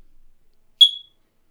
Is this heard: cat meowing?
no